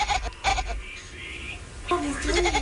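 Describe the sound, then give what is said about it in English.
A kitten gives a couple of loud, wavering meows that sound remarkably like a goat's bleat, one short call at the start and a longer quavering cry near the end. “What it is, though, is this is a kitten that the kitten sounds like, obviously, a goat. But the noise is coming from a kitten.”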